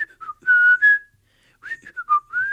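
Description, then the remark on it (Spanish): Someone whistles the intro tune of a TV show, a short, lilting melody: a bright phrase, a brief pause, then a second phrase that rises and falls before trailing off. No one speaks. “Pues sí, la intro es así, sí. Muy bien silbada, por cierto.”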